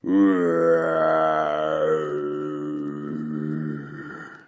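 A single long, angry growl, steady and loud for several seconds before gradually sinking lower in pitch, voiced by a person imitating a snarling animal caught in a pit trap, with no other sounds around it.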